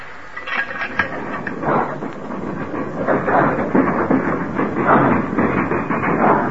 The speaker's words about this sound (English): Now we'll see how this engine runs in reverse.